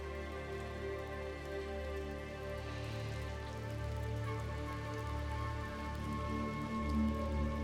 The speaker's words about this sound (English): The next day, rain pours off the roof outside the dungeon